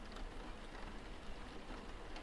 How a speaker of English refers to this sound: If you listen very carefully, you can just make out the gentle pattering of the rain against the window.